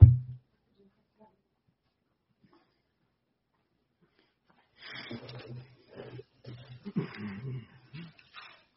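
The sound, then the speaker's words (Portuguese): A dog barks and huffs in a rough, irregular series of bursts, following a few seconds of near silence after a brief thump at the start. “Se ele latir, ele latiu.”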